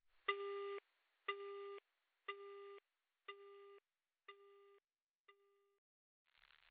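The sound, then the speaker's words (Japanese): After a caller hangs up, a telephone busy tone pulses in six evenly spaced beeps, each slightly fainter than the last, ending with a soft burst of noise; no one speaks. “ごめんね、そういうことだから電話切るね。”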